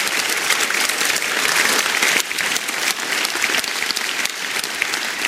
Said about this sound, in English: And we would all like to just give You a round of applause and tell You we love You, God. We love You.